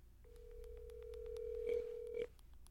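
A phone call ringing tone plays as one steady electronic buzz for about two seconds, fairly clear, then cuts off abruptly. A few faint clicks come through underneath, and nobody speaks.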